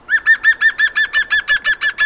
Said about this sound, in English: The green woodpecker is the largest of the UK's three woodpecker species and can often be found at this time of year with its young foraging for grubs and bugs in the undergrowth. And you'll often see them in grassland areas.